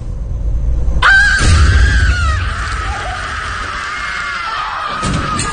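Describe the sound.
A woman screams at full volume, a long, harsh, sustained shriek that bursts in abruptly and holds for several seconds before cutting off, loud, screaming right in her daughter's face.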